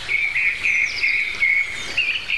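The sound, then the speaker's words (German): Bright, continuous chirping fills the air, a steady stream of high twittering calls repeating in quick bursts, like several small garden birds singing together outdoors in spring or summer at moderate volume. “Bei uns piept es ordentlich am Anfang dieser Folge”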